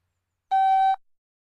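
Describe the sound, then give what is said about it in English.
A single electronic beep from an audio guide, the cue to press pause before going on to Nether Largy South Cairn, a steady mid-pitched tone with bright harmonics, lasting about half a second and then cutting off, with nothing else around it. “When you hear the beep, press pause and press play again when you're standing at Nether Largy South Cairn.”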